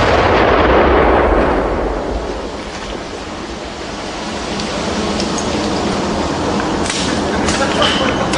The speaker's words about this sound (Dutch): Vandaag was de explosieve opruimingsdienst op het terrein van de voormalige kruitfabriek. De dienst komt er regelmatig om gevonden granaten tot ontploffing te brengen.